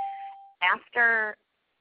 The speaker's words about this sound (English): I've heard a lot of beeping, so I think we've got some more people joining.